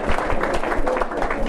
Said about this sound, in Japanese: じゃあ本当にいいと思う人は思い切り手拍手で示してください。